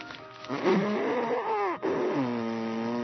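Someone blows their nose hard into a Kleenex tissue: a loud, honking, trumpet-like blast that wavers in pitch, a brief catch, then a second long, steady honk. No one speaks.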